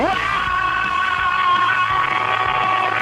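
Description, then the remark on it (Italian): A musician, the guitarist, lets out a long, loud scream that rises sharply at the start, then holds a high, strained pitch for about three seconds, with no talking around it. “L'urlo, l'urlo, non resisto senza l'urlo di ….”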